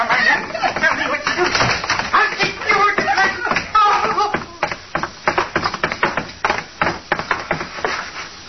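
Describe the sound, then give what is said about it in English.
A chaotic scuffle of shuffling and thuds gives way to a run of sharp, irregular blows landing one after another as a man beats his wife, with muffled vocal sounds mixed in. “He's beating her.”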